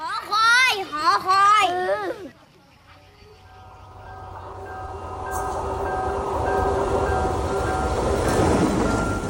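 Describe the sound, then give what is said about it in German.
Children's voices chatter briefly at the start, then a passenger train rumbles past on a single track near the village of Peralia, Sri Lanka, on the line south from Colombo through palm forests, its broad rolling noise and steady tonal hum growing louder toward the end. “Ein Zug auf der Strecke von Sri Lankas Hauptstadt Colombo Richtung Süden.”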